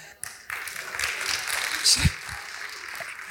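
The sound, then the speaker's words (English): One person claps a few times at an uneven pace, the claps sharp over a steady background noise and faint murmuring voices. “It's you there clapping, mate.”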